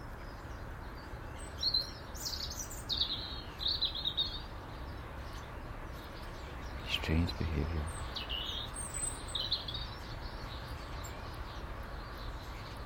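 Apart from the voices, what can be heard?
blackbird calling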